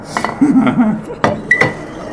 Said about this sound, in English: Can I do it in a mixed drink form? Sure. You plane shot in a mixed drink form and just pour me like a quarter of a shot, like a splash. That's enough. Splash.